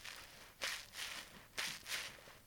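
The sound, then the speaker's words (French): Footsteps squelch through mud at a steady walking pace, four wet, sloshy steps in alternating rhythm, fairly soft, with no voices. “Vite, on traversons la boue.”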